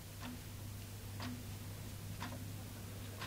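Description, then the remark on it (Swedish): A clock ticks steadily in a kitchen in a leafy villa area on the outskirts of Norrköping, Sweden, four evenly spaced ticks about once per second, quiet, over a low constant hum. “Klockan tickar i Janina Karlssons kök i det lummiga villaområdet i utkanten av Norrköping.”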